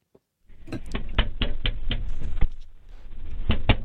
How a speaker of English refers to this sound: Here's, first you'll hear the knocking. Then you'll hear the police officer is the first person who talks.